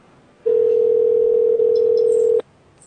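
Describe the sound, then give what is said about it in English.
A call-in phone line ringing on the caller's end: one steady, loud electronic tone held for about two seconds, then cut off. There is no talking around it. “it's still ringing. It's still ringing.”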